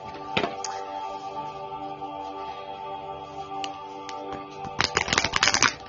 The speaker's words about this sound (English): So we're going to shuffle the Work Your Light deck